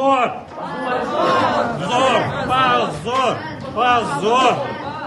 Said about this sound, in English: Memorial's supporters in the courtroom responded with shouts of shame.